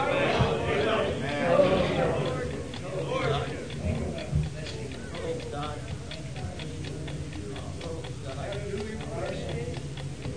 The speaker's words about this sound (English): It's ticking. It's ticking. You hear it?